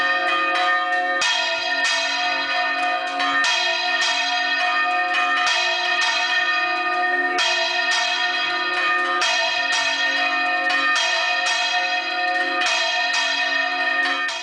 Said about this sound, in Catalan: Bé, els nostres convidats suposo que ja saben les campanes d'on són. Campanes. Campanes? Sí, sí. Dis-ho tu. No, d'ací prou, no? Sí. De la torre del campanar nou de la Catedral de València, el nostre Micalet. Perfecte, el Micalet de la Seu.